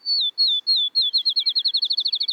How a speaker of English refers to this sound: Outside of town, listen for the field sparrow's song, which sounds like a ping pong ball bouncing and then coming to rest.